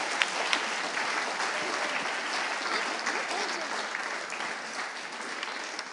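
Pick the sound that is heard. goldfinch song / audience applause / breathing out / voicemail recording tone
audience applause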